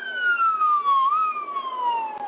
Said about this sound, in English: You ever drive down the road and see a police car trying to get through rush hour traffic? People have become so accustomed to the siren, they don't move out of the way.